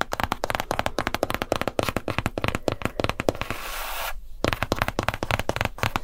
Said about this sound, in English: And this has a paper-like cover on the front, which I think sounds better and feels way better than a glass screen. It's a little bit more lumpy and bumpy because it's not being perfected.